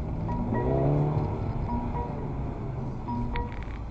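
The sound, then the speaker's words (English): A car with a popped tyre drives fast away from pursuers, with a loud, steady engine roar that revs and climbs in pitch early on, then holds a constant rumble throughout, with no one speaking. “You get us, like, out of here. Away from them, before we can ditch the car, babe.”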